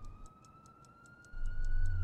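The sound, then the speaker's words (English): A fire engine siren at night, heading to a fire a couple of blocks east by the river, holds a steady, slowly rising wail, with a quick regular high-pitched pulsing above it and a low engine rumble that swells louder halfway through. No one speaks. “Listen. A fire. A fire! Not far away, over east a couple of blocks, by the river, I'd say.”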